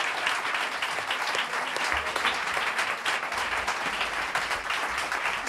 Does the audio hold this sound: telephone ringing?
no